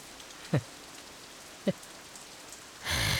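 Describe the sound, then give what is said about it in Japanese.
Rain falls in a steady hiss with two brief dull thumps, then suddenly swells into a loud downpour near the end. No voices. “あんたさ、こんなろくでもねえ男雨ん中追っかけてさ、マジでどうすんの”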